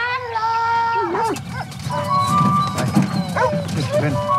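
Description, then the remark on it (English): Truffle-hunting dogs in Italy whine and whimper excitedly in high, wavering tones, with a few short yips and barks, as they set out with elderly Italian men to find truffles, over a low rumble of outdoor background noise and faint voices. “And this is where we pick up the story, or the scent, as a bunch of secretive and eccentric old, some as old as 88, Italian men, and the dogs they love far too much, set out to find these highly prized fungi.”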